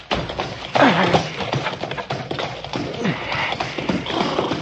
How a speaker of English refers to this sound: Don't you listen, horse. You run. You run. You just keep on...